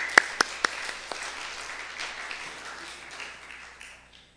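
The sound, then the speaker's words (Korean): A church audience breaks into applause to welcome a visiting missionary, a few sharp, loud claps standing out at the start before the dense clapping gradually fades away over about four seconds, with no one speaking. “네, 우리 박수로 환영합니다.”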